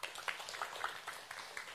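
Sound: audience clapping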